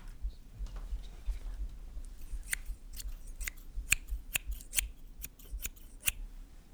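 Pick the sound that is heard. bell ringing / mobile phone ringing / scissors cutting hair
scissors cutting hair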